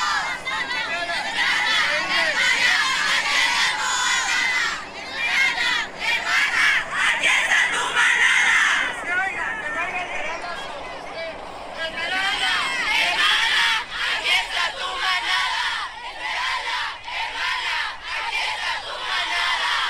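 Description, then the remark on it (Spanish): A crowd of women shouting and chanting together at a 2023 8M march, loud, with dense overlapping voices and bursts of cries continuing throughout, surrounding a man and chanting 'no estás solo'. “Ahí está usted hablando, rodeado de un grupo de mujeres, gritando: Esmeralda, hermana, aquí está tu manada”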